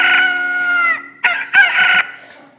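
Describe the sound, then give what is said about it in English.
A rooster crows loudly, a long harmonic cock-a-doodle-doo that drops in pitch, followed by a couple of shorter, raspy crowing bursts. “And wherever there are chickens, there are always roosters.”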